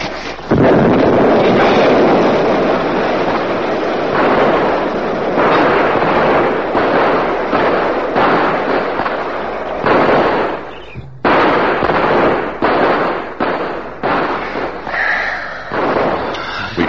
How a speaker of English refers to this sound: No one left around. The explosion, the fire got them all.